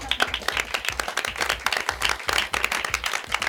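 A crowd breaks into steady, dense applause, many hands clapping at once in a bright, continuous patter that holds at an even loudness throughout.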